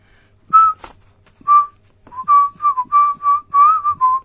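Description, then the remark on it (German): A woman whistles a short tune furtively to herself while walking along a sidewalk in the heat, starting with two separate notes, then a quick run of rising and falling notes that flow together into a simple melody. “Pfiff sie verstohlen vor sich hin.”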